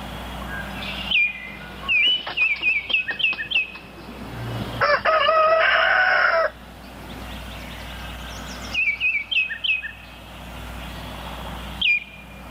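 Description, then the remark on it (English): In the early morning, a rooster lets out one loud, drawn-out crow in the middle, with bursts of quick, high bird chirps before and after it over a steady low outdoor hum. “Songs of the Caribbean, early morning, the pickle plant and the rooster.”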